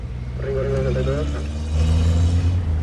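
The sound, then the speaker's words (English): The engine of a rickety police pickup truck rumbles steadily as it drives through the streets of a neighborhood called Iberia, a low droning hum that swells slightly louder toward the end, with a faint voice briefly audible early on. “From a rickety pickup truck, … surveys a neighborhood called Iberia”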